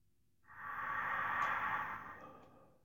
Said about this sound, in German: Ganz tief in den Bauch hinein und dann hoch in den Brustkorb atmen.